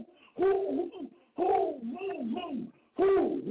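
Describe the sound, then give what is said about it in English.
A man's voice hoots like an owl, three low, drawn-out rounded calls with wavering pitch, separated by short pauses and delivered loudly on their own. “I sound like an owl.”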